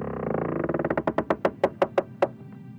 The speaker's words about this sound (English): Here I am again, opening yet another door.